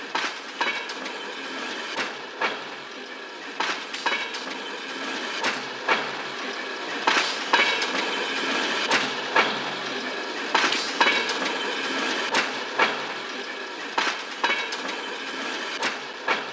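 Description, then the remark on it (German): A long-distance train platform at a main railway station, right beside the tracks, with a steady rumbling hum and sharp metallic clanks recurring every second or so, like train wheels and couplings close by, with no voices. “Sie führen dich zu den Bahnsteigen der Fernverbindungen. Dort wollen wir uns eine Weile in unmittelbarer Nähe der Gleise aufhalten.”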